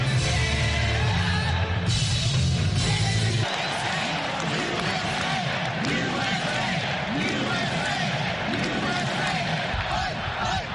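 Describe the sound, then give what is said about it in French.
A large crowd of convention delegates roars and cheers continuously in a huge hall decorated in blue and red, as former president Donald Trump enters after they officially nominated him as their presidential candidate; shouts and whoops rise over a dense wall of noise, with low chanting or music pulsing underneath for the first few seconds. “l'ancien président a levé le poing en entrant dans l'immense salle décorée de bleu et rouge sous les acclamations des délégués qui l'ont officiellement désigné pour être leur candidat à la présidentielle du 5 novembre.”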